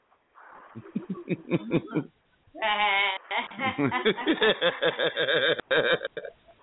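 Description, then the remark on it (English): A baby goat bleats repeatedly, a string of loud, quavering cries that run almost continuously for several seconds with only brief pauses between them. “It's a baby goat, my nigga.”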